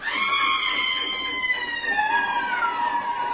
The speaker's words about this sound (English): Then he began to move. And it was the brakes or a train whistle. If only I hadn't imagined it was something else. Above the racket of the train, it sounded like...